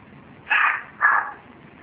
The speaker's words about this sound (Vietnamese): có con chó nhỏ phải không? Chihuahua phải không?